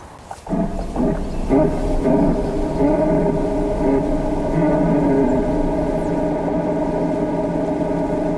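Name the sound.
red deer stags roaring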